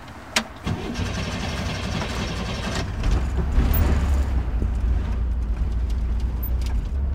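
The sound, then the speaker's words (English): A light yellow 1963 Corvair convertible's engine cranks with a few sharp clicks, then catches and settles into a steady, low rumbling idle in a parking lot in Encino, California, with no one speaking. “Now, what do you want to do? Start the car?”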